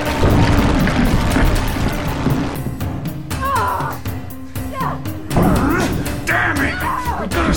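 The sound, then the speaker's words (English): A loud, continuous jumble of crashing, rattling and thudding as furniture, chairs and window glass move and crash, with sharp impacts scattered throughout and strained voices crying out over the chaos. “The furniture, the chairs, everything, it's starting to... Shit! The glass in the window! All of it's moving!”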